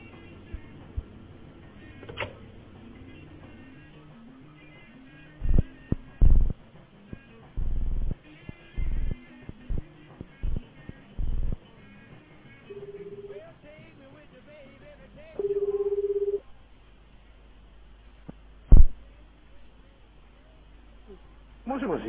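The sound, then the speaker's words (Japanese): A phone being dialed: a run of short, choppy keypad beeps, followed by a couple of steady electronic ringback tones, with quiet background chatter throughout. “そうですか、 ちょっと電話してみますか。”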